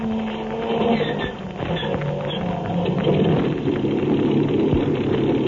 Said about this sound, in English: Jack Armstrong, in the pilot seat of the amphibian, is just starting the motors of the big plane. They're about to take off from the village of Chief Hawkface and resume their journey to the sacred city